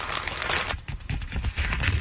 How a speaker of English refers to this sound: Now she's rubbing the balloons.